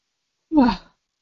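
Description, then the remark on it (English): A single short yawn, a breathy voiced exhale that slides downward in pitch and fades out, heard alone against silence. “You're making me yawn.”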